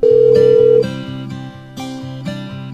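A phone line rings out with one steady electronic tone lasting under a second, then gives way to a plodding synthesized melody of repeated notes. No one speaks.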